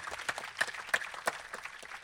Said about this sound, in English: Nominees, runners-up and winners, if you make yourself known to the Cried Out Loud production team here at the back, who deserve another round of applause as well. So thank you.